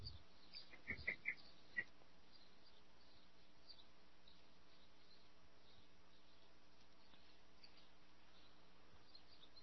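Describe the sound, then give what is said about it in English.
A few faint, high bird chirps come in quick succession early on, then one more a moment later, soft against a quiet background hum with no one talking. “Somebody's got a bird.”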